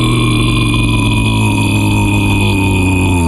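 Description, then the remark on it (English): A voice imitates a cow's moo, a long, loud, low droning bellow held steadily for over three seconds with a rough, buzzy tone. “But the cow said, "Moo,"”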